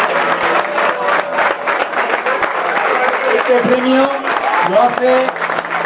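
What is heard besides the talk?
audience applause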